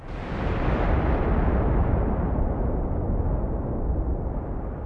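A shaken sheet of metal, used as a sound effect to imitate a storm, gives off a continuous rolling rumble like thunder, loud and steady for about five seconds, its brighter edge slowly dulling while the deep roar holds. No voices.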